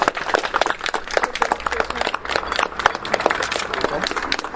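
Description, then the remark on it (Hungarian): A crowd breaks into steady applause after the cover is removed from a plaque at its unveiling, many hands clapping together in a dense, continuous patter that holds at an even level throughout, lively. “Azt gondolom, hogy egy tapssal jutalmazhatjuk a látszát.”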